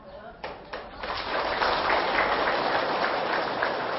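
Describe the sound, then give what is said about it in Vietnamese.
An audience breaks into applause, a few scattered claps at first swelling into steady, dense clapping that holds at a fairly loud level to the end. “Các chàng vỗ tay cho thấy là các vị đã từng làm và thậm chí là làm rất hiệu quả.”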